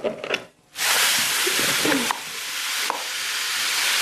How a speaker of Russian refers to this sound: Так, муку мы просеяли, получается. Дальше мы насыпаем сахар, стакан с сахаром.